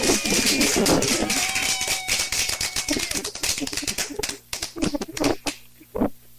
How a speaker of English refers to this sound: Hold on 1 second. Let me give you this clap that we do in the beginning of our show.